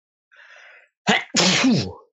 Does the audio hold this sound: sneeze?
yes